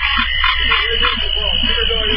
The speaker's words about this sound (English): You just have to hear the sounds of these frogs. And you guys are going to be like, okay, we hear this all the time. But for those of us West Coast folk, it's just incredible. Let me see if... Hear the honking? So those are frogs.